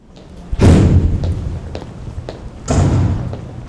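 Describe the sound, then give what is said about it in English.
Two heavy metal doors slam shut at the Anchorage Correctional Complex in Alaska, a second or two apart, each a loud booming clang with a long, echoing low rumble that fades slowly. “Through heavy metal doors, down a plain white hallway is a plain white room lined with tiny two-person cells.”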